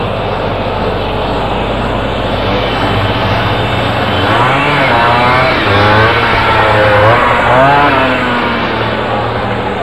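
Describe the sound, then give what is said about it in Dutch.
A boy's moped, its small two-stroke engine drawing closer and revving up and down in rising, wavering whines over a steady low motor rumble, fairly loud, with no voices. “En dan komt een brommerjongetje aan.”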